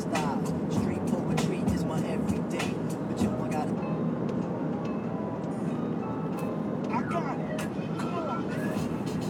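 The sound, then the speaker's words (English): A steady, loud low rumble of road noise fills the inside of a moving car without letup, with scattered small clicks and a muffled voice faintly audible underneath. “Just, I'm driving a car, you know?”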